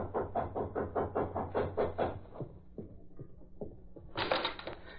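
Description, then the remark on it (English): A quick, steady run of hollow knocks, then a few slower, separate raps on an apartment door, ending in a brief bright rattling burst. No one speaks. “there was a sudden knock at her apartment door.”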